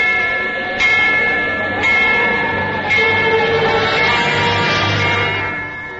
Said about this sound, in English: It had once called people to their place of worship. It had warned the people of danger when a storm was approaching at sea. That ship out there must be warned. Sound the bell.